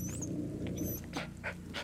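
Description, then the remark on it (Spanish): A dog whimpers and cries outside with thin, high-pitched whines, mixed with quick breathy pants over a low steady rumble. Nobody speaks. “A su perro Braigo nuevamente llorando afuera”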